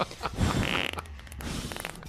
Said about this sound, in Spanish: ¿Cómo saber que no se va a armar después de la cita? Primero un sonoro eructo. Perdón, el sushi con ajo, chipotle y extra pescado me hacen un poco de daño al estómago.